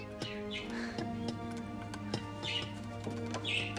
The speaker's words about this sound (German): Da klopften die beiden weißen Turteltäubchen mit ihren Schnäbeln ans Fenster.